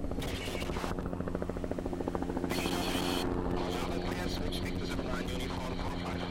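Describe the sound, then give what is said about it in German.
A red Swiss rescue helicopter on a mission in flight, loud, its rotor chopping in a steady rapid rhythm over a dense engine roar and whine that holds constant throughout. “Auf seinem Einsatz fliegt er den roten Rettungshelikopter ab dem Spital Fisch über den frisch verschneiten”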